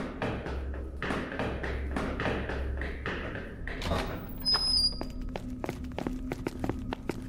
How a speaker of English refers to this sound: Before I could get through the stairwell door, it yanked itself forward by some unseen force and slammed closed. I rammed into the bar, but it didn't budge.